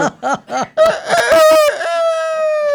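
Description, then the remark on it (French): A rooster gives a few quick clucking notes, then launches into a loud, drawn-out crow that holds its pitch and fades at the end, with no talking. “Le cocorico du lundi.”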